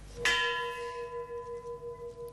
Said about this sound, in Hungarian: Hajnali 1 óra 23 perckor kondult meg a harang az ukrán fővárosban, majd néma csend következett. Percre pontosan 25 évvel ezelőtt ugyanebben az időpontban történt a csernobili atomkatasztrófa.